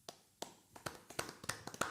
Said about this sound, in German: Wollen wir mal so einen richtigen Fußballer-Biertisch-Applaus?